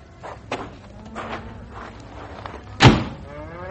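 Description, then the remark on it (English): A car door unlatches with a few soft clicks and rustles, then slams shut with one loud thud, followed by quiet background, as people get out of a car at the Double Box M ranch. “Okay, let's get out, huh?”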